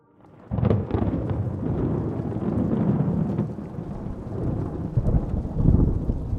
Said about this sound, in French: Blottie dans l'obscurité de sa chambre, Sao Mai compte les secondes entre les éclairs et les coups de tonnerre.